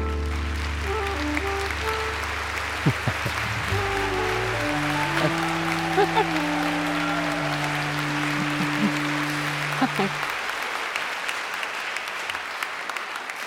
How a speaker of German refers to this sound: Wir freuen uns sehr, ich habe es eben am Applaus gemerkt, dass wir heute einen richtigen Star hier haben.